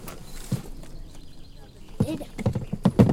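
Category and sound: animal, horses' hooves clip-clopping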